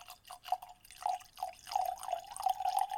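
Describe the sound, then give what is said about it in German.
Apex Dead Sea whisky glugs out of a bottle into glasses as it is shared out and the last drops are squeezed from the bottle, a steady run of gurgling and splashing drips lasting a few seconds with no one talking. “Den letzten Tropfen rausgequetscht. Auch aus der Flasche.”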